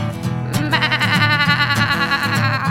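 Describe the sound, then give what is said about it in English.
A sheep bleats loudly, a long wavering baa that trembles on for nearly three seconds with no one talking. “My mom has got a sheep on her head.”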